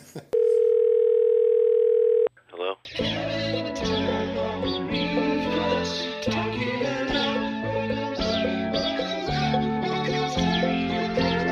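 A steady landline dial tone hums loudly for about two seconds, then cuts off abruptly and gives way to busy, layered music.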